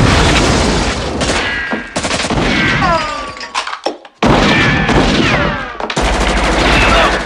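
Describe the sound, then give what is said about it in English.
Heavy bursts of rapid gunfire rattle almost continuously as attackers shoot men playing Trivial Pursuit, broken by a loud blast from a grenade rolled into the room and a brief lull before the shooting resumes, with faint shouting voices mixed into the din. “The last man is gunned down.”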